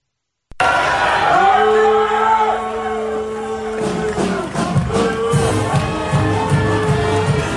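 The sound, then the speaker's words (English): A crowd roars with loud, sustained booing and jeering at Willard, and a few seconds in a band kicks in, its steady tones and beat rising under the lingering crowd noise. “The fact that the booing right into the band starting up is just so great.”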